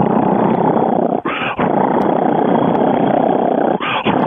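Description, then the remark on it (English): A person imitates a loud cheetah purr, a continuous rough rumbling drone that fills the whole clip, broken by two brief breaths or pauses for air. “A cheetah will purr. It's so loud you'll think it's roaring.”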